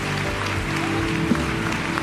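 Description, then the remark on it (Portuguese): Steady audience applause at a church service, clapping to glorify the name of Jesus, a dense wash of many hands clapping at even loudness throughout, with a low sustained hum underneath and no voices. “Aplauda, glorifique o nome de Jesus.”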